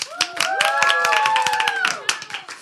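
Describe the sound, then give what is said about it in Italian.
A group claps steadily for a couple of seconds, dense overlapping hand claps with voices calling and cheering over them before the applause thins out at the end. “ma intanto sappiamo che alcuni ci ascoltano e quindi li salutiamo, anzi facciamo loro un applauso perché hanno collaborato.”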